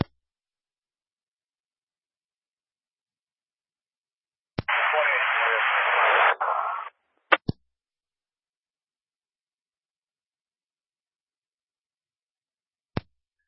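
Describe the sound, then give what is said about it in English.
A radio keys up with a sharp click, then a hiss of harsh static lasts about two seconds and cuts off. A few more isolated clicks follow in otherwise dead silence. “You were still all static.”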